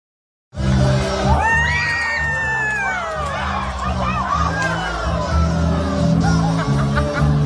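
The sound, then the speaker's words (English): A large outdoor crowd at a hometown Fourth of July parade screams and shouts in alarm as a horse breaks loose and gallops through it, high voices rising and overlapping continuously, with loud, dense commotion throughout and no single voice standing out. “It wasn't worth the screams.”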